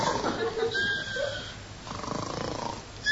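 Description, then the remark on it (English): Steady, rumbling snoring with a raspy, pulsing texture, preceded by a few faint whistling tones, from a man sleeping inside a drawer of a metal filing cabinet in a place full of rows of metal drawers. It's moderately loud, with no one talking. “I can hear a noise like snoring, too.”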